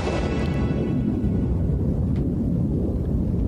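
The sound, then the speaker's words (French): A loud explosion at the end of a song: a deep, rumbling roar fills the whole stretch, dense and steady with a faint hiss above the low boom and no voices or music over it. “On écoute l'explosion jusqu'au bout.”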